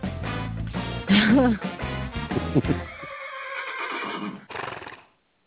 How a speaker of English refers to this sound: Well, my daily whinny goes out to my very special, wonderful, talented horse, Edward